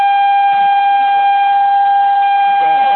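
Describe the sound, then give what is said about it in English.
A phone alert sounds as a loud, steady electronic tone, holding one high pitch without a break from start to finish, with faint murmuring voices beneath it. “Somebody needs to stop playing with their phone.”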